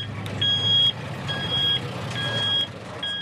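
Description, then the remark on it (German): A German army truck's reversing alarm beeps in a steady, repeating pattern, four long tones over a low diesel engine rumble, fairly loud, as the truck delivers a water cistern to a small Afghan village. “Ein Lastwagen der Bundeswehr hat eine Wasserzisterne geliefert.”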